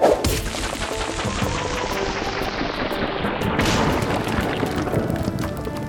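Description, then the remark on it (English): A game sound effect of throwing a rock: a loud, dense rush of noise with a sweeping, falling whoosh and rumbling, crashing texture that lasts several seconds, with no voices. “You throw a rock.”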